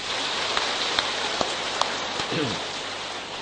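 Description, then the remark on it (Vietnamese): A crowd at Hoằng Pháp Temple, a Buddhist pagoda, applauds in a dense, steady wash of clapping with a few sharper individual claps standing out, and a voice briefly cuts in near the end. “Quý vị xin thưởng cho anh tràng pháo tay.”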